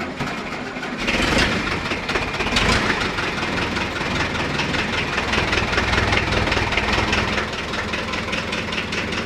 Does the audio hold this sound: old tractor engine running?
yes